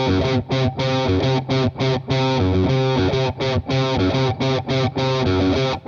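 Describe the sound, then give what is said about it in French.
A distorted electric guitar plays a choppy riff of single notes without palm muting, in five beats per bar, starting and stopping in short bursts and longer held stretches in an uneven, odd-meter rhythm that spells letters in Morse code, loud with no voices. “On va tout simplement suivre un rythme en 5 temps par mesure, c'est pour ça que sur le backing track fourni, vous trouverez un décompte en 5 temps, avec un placement qui est en single note sans palm muting, relativement aseptisé.”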